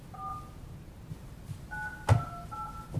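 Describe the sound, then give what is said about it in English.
Several dual-pitched phone keypad beeps as someone enters a six-digit PIN code to join a phone conference, separated by short pauses, with a sharp click partway through and a low background rumble. No one speaks. “Hello, please enter your six-digit PIN code.”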